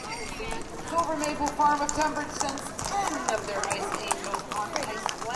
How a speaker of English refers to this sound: The Wassail Parade is a horse parade, both medieval and Dickensian. No batons are twirled, no dancing clowns. It's a stately, dreamlike affair. The riders wear holiday costumes or period garb.